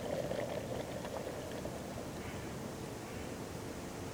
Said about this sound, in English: He defines the process, the tea powder on the water surface like snowflakes, and getting the temperature just right, listening to the boiling sound like a wind rustling through the pines.